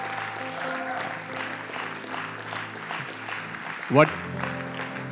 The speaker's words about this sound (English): if you are not jealous, you can clap better.